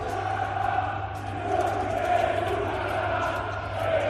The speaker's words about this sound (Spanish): Por cierto, el partido siguió así, con estos gritos del Palacio contra Nikola Mirotic, que volvía.